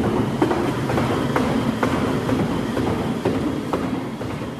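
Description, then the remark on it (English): A horse gallops on KER's purpose-built high-speed equine treadmill during exercise physiology research, its hooves striking in a steady rhythm of about two beats per second over a constant loud mechanical whir and rumble. “KER uses an equine treadmill for its exercise physiology research.”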